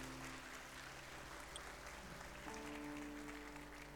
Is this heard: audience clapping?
yes